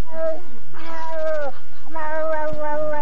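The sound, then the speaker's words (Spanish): A person imitates a cat in heat with drawn-out, wavering yowls, two long rising and falling wails, sounding convincingly like a caterwauling cat. “Era un gato en celo.”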